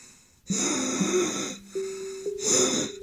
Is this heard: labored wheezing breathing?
yes